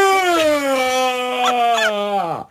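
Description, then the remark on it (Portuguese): A person imitates the loud, exaggerated yawn of a sleepy older man in a cinema: one long voiced groan that starts high and slides slowly downward for a couple of seconds before cutting off with a quick drop. “Porque quando bocejava fazia...”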